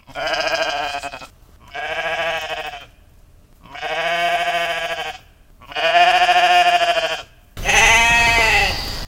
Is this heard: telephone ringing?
no